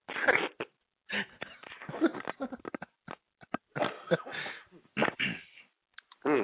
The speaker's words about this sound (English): At least I lasted 15 minutes before I coughed.